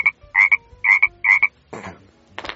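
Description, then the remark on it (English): An American bullfrog (Lithobates catesbeianus) croaking: four loud, evenly spaced twangy croaks in a steady rhythm, followed by two rougher, raspier bursts, with no talking. “The Lithobates catasbionus goes...”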